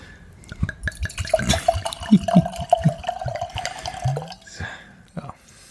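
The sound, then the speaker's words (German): Red wine drips and trickles into a glass in a quick, irregular patter of small splashes, with a faint ringing tone and some murmured talk underneath. “Oh, aber da, es tröpfelt.”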